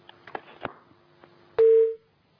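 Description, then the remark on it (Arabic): A phone line clicks and crackles over a faint steady hum, then a loud telephone busy tone sounds once, briefly, as a caller's phone call into a lesson cuts off. “انقطع الاتصال ايضا، كأن التليفون يريدنا ان نكمل درسنا اليوم ان شاء الله تعالى.”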